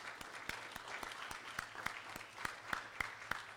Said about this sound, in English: Would you be willing to do that with me? Praise God right now with our applause to God.